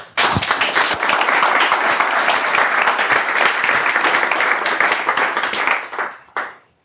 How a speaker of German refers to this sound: Und dann geht's jetzt auch los mit einem ganz dollen, herzlichen Applaus für die beiden.